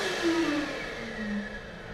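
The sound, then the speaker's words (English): A motion sensor hand dryer blows with a steady, loud rush of air and a humming motor tone that wavers slightly in pitch, continuous for two seconds with no voices. “She grabs the ball and passes a motion sensor hand dryer.”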